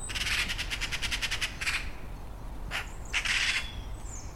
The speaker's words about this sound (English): Got the birds singing.